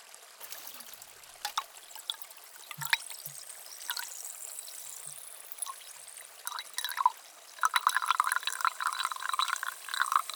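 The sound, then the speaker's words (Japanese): Carbonated water pours into a container, prepared for soaking cotton swabs for ear cleaning, with soft trickling, crackling fizz and bubbly pops that grow denser toward the end. No one speaks. “炭酸水を用意して、綿棒を浸して、では、お耳を失礼いたします。”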